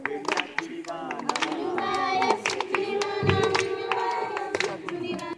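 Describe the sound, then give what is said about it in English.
A group of people moving forward in a line in a festive procession sings together in a steady chant while sharp handclaps keep a regular beat, the claps cutting through the sustained, fairly loud singing throughout. “And the whole way through, they were kind of singing and clapping in line.”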